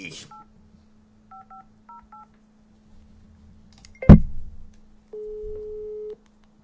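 About five short, evenly spaced touch-tone beeps as a phone number is dialed over a low steady hum, followed by a sharp clunk and then a longer, steady single tone.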